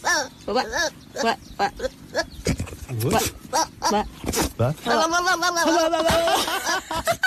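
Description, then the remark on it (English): A goat bleats over and over, its loud, quavering cries sounding uncannily like a wailing child, building to a long, wobbling bleat near the end. “I love this little fella. The way he sounds like a little child.”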